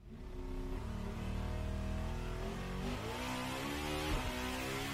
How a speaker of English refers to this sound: Dude. Wow. Very high revving car.